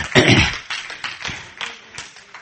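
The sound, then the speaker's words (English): An audience claps in a burst that starts dense and loud, then thins into scattered, uneven claps and taps fading over a couple of seconds. “Now, God's awesome power is much better than y'all just clapped.”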